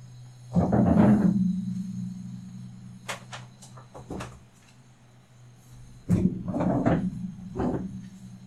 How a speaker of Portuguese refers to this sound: Deixa eu só fechar a porta aqui.